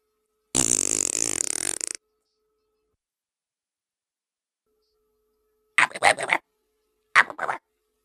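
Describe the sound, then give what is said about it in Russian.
A long, buzzing fart sound rings out, then after a pause two shorter, sputtering farts follow in quick succession, loud with silence between them and no talking. “Черт, зарубился один канал, что делать? Пердеть?”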